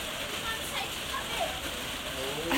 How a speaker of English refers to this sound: It's so fun out here, man. While it's rained like this. Maybe I should step outside and see just how much rain it is.